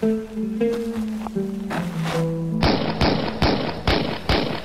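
sound effect, five gunshots

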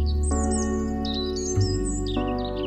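bird, bird chirping

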